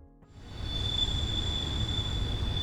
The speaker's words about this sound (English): A Norfolk Southern train passes through the world-famous Horseshoe Curve. The curve was designated a National Historic Landmark in 1966. It's still used today to transport goods and Amtrak passengers.